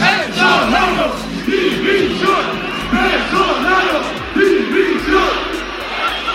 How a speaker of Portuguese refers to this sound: Na plateia, alguns sorrisos amarelos, uns tímidos aplausos e muitos assobios.